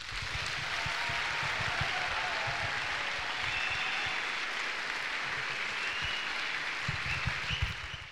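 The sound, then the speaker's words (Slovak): Sustained applause from a large crowd thanking the UPC choir from Košice for accompanying the holy Masses over three days at an akadémia event: a dense steady wash of clapping that stays loud and even for the full eight seconds, with a few sharper claps near the end and no one speaking. “No a keď ešte raz sme povedali, že zboru UPC-čkárom z Košíc poďakujeme až dnes, tak im veľmi pekne ďakujeme za celé doprevádzanie svätých homší počas troch dní na akadéme jedným úžasným potleskom.”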